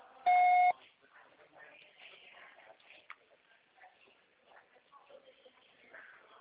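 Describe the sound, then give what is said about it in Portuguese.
A single loud electronic voicemail recording tone beep with steady harmonic tones lasts about half a second, then quiet talking continues in the background. “Grave seu recado agora.”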